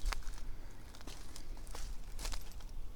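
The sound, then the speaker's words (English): Heavy footsteps stomp across a room, a handful of dull thuds landing at an uneven pace over a low background rumble, with no one talking. “Oh, stomping through here.”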